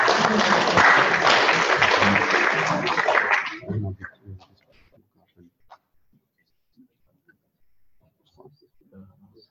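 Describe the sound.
An audience breaks into a dense round of applause for about four seconds, then the clapping stops abruptly, leaving a quiet room with a few faint, scattered voices and small noises.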